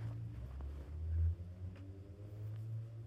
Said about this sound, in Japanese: ちょ、バイクうるさいね。ごめんね。深夜に撮ってるんだけど、いかんせんね。